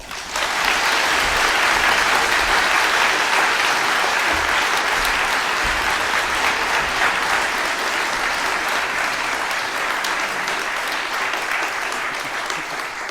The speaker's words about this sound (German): Und insofern großen Dank und großen, großen Applaus